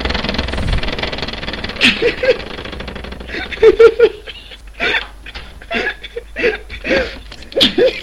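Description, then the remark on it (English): A voice imitates an elephant with a string of strained, trumpeting vocal blasts, some rising and squeaky, broken by short pauses and bits of breathy laughter. “Wait, wait, wait, wait, let my, hear my elephant.”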